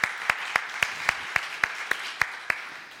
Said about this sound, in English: And thank you to all of you guys that participated in that. So again, let's applaud for that.